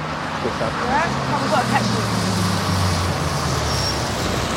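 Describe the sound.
Steady street traffic noise at a bus stop, with a low engine drone like a bus idling and pulling along, and faint indistinct voices briefly mixed in near the start.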